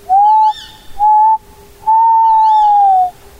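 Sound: tawny owl call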